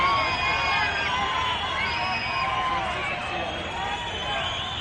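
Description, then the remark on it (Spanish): A large crowd at a parade boos, shouts and chants "Fuera, fuera" and "Elecciones, elecciones", many voices overlapping in a dense, loud roar that holds steady throughout, with no single voice standing out. “cuando le han llamado Ocupa y le han gritado Fuera, Fuera o Elecciones, Elecciones”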